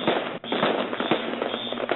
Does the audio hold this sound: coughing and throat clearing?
no